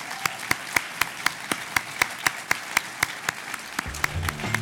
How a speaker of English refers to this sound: But first, I want to thank all of the candidates for participating and ask you all to join me in giving them a round of applause.